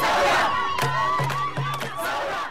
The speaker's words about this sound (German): Die skandierende Frau, die die Menge zum Protest auffordert, steht auf dem Dach eines Autos und gestikuliert rhythmisch.